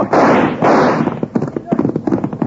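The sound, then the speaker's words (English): Two loud, sharp gunshot blasts ring out in quick succession, each with a brief rough tail, the first shot cutting a rope, and then a man starts talking. “Cut the rope with his first shot.”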